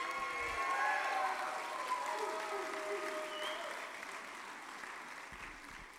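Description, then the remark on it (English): A crowd applauds steadily for the Lord with dense, sustained clapping, mixed with scattered cheers and whistle-like tones, staying loud throughout before easing slightly toward the end. “Give it a louder applause for the Lord.”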